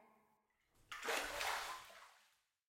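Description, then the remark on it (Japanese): A sudden swell of sloshing water as a person sinks into a filled bathtub to soak after rinsing off suds in the shower, rising quickly, churning for over a second, then settling and fading away. No one speaks. “シャワーで泡をしっかり流したら、次はお風呂に浸かるの。”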